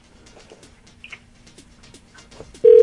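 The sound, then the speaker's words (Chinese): Quiet background with a few soft, coo-like bird calls, then a loud, steady telephone ringback tone from a phone call to a father that is not getting through cuts in abruptly at the very end and holds. “哎，怎么都接不通？”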